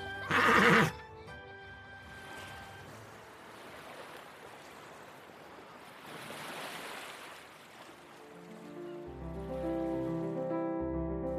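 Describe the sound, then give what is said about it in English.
A loud, shrill horse whinny rings out at the start, then fades into a steady wash of surf with a soft melodic tone; gentle music swells in near the end. The horse is on a beach by the sea, with children riding it. “Cao Yang takes a nap on the beach, and Pao Kong even lets the children ride his beloved horse.”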